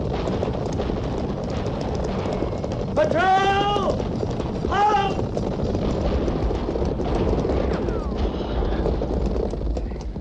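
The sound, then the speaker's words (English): A steady, dense rumble of cavalry horses galloping near the Oregon Trail fills the whole stretch, with two brief high, wavering cries rising over the pounding hooves partway through. “At the gallop!”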